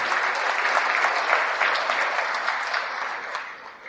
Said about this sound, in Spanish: le damos un aplauso al Señor.